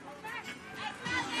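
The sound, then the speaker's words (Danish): Young people's voices shouting and chattering over one another in the evening in Tingbjerg, a faint, continuous babble of overlapping calls with a few raised, higher-pitched cries. “Jeg kan høre unge mennesker, der råber.”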